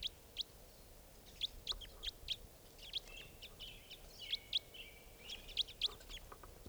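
bird, crossbill calls

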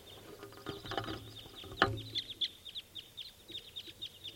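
bird, wild crossbill calls

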